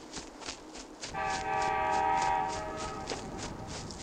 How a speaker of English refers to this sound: I can see the night train. Wait for me. Now I'm riding on the night train.